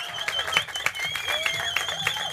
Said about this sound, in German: Ist immer geil, einen Podcast zu machen und Live-Publikum zu sehen und auch zu hören. Vielleicht mal einen kleinen Applaus hier. Danke, Norrisring.